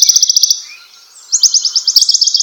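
Western Bonelli's warbler calling in stands of trees: two quick, dry, high-pitched trills of evenly spaced notes, the second longer, clear with no voices around them.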